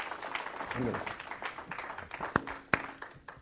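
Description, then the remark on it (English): A church audience applauds the Lord to welcome the start of October, with steady, dense clapping throughout and voices mixed in. A couple of sharp, louder claps stand out near the end as the applause gradually thins. “Let's give the Lord a round of applause for bringing us into another month.”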